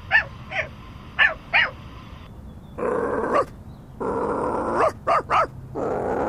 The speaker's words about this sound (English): I can hear barking. It's another dog. And he's making Sweetie upset.